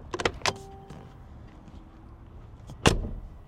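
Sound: car door closing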